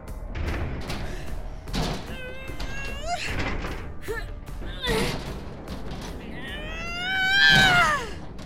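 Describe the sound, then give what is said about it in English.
Heavy, uneven thuds pound loudly against a door several times as someone tries to break through it, mixed with strained shouts and a rising scream near the end. “Do you really think you're strong enough to break through that door?”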